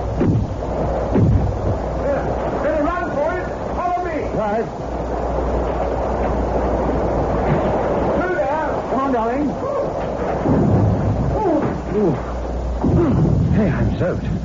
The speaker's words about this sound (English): It's better than driving through that horrible storm all the while.